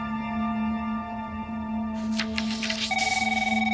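A phone starts ringing with a rapid, trilling electronic tone, clear, right after a brief burst of rustling and clatter as a page is flipped, over a steady low background hum. No one speaks.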